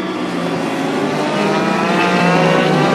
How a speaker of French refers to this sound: les 24 heures du Mans moto, c'est des motos. Donc là, je me pointe devant le virage. Écoute ça.